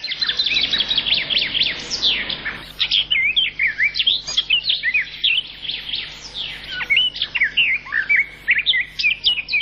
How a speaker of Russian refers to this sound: Птичьи голоса в городах пытаются пробиться к людям сквозь шум автомобилей и бывают слышны здесь совсем ранним утром.